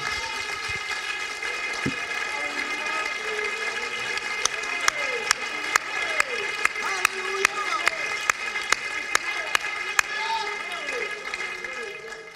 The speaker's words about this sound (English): Oh, let's clap our hands together.